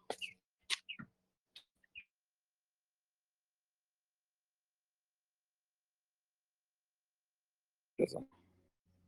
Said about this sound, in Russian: Вот, тут у нас птицы. Птиц очень много.